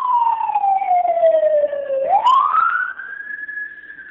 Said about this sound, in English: Sorry, that was a Beverly Hills fire truck going by.